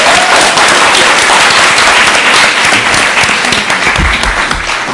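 A crowd applauds steadily for about five seconds, a loud, dense wash of many hands clapping with no distinct individual claps and no speech over it.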